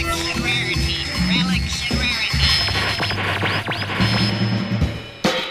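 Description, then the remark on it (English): A crackling radio transmission, the pirate broadcast of a DJ's Relics and Rarities show intercepted and beamed back via satellite, full of static and steady hum, with warbling, whistling tones sweeping up and down as if being tuned, and a garbled voice buried in the noise. “…'s broadcast is now being intercepted and beamed back to you via satellite.”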